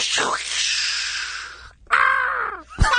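A sizzling, crackling lightning-strike sound effect roars for over a second, then cuts to a loud, harsh crow caw as a bird is hit by the strike, ending with a brief sharp burst.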